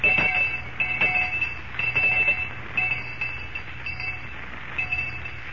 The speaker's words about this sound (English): I'll ring the lunch bell.